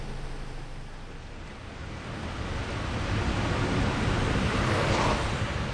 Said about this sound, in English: Whenever I walk down an Iraqi city street, it isn't long before I hear the incessant soundtrack of life since Saddam, the drone of petrol or diesel generators.